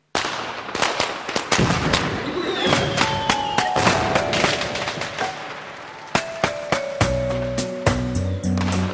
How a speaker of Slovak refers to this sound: Tak, ideme na to, ano? Chlapci, ohňostroj, teraz.